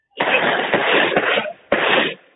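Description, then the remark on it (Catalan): A volley of blunderbuss shots fired by the neighbourhood trabucaires outside the Gabriel García Márquez Library at its official inauguration: about four loud, sharp blasts in quick, uneven succession, each bursting into a broad roaring rumble that fills the gaps before fading out. “Amb aquests trets inaugurem oficialment la Biblioteca Gabriel García Márquez.”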